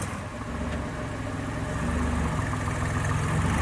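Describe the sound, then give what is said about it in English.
A car engine rumbles steadily with a low, droning hum that swells slightly louder as Blackburn drives away in his car, with no voices over it. “Blackburn drives away.”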